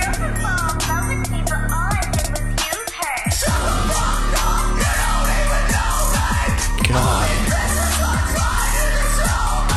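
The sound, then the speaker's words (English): Harsh, distorted screamed vocals from a male singer cupping the microphone roar over a loud, dense band, nearly nonstop for the whole stretch apart from a brief drop in intensity early on. “Okay, he's definitely cupping the mic when he does this.”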